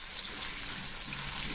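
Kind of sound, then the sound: household object, water running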